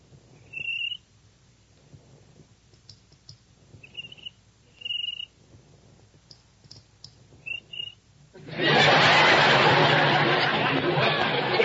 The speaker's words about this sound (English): How do you like that? A cricket with rhythm.